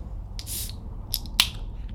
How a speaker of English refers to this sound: If you open up a can of mango cart beer and you drink it, when you're drinking it, the beer goes downhill into your stomach.